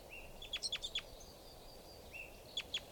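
A lone female bird gives short, high chirping calls in two brief bursts, quick sharp notes over a steady hiss of background noise, with no one talking.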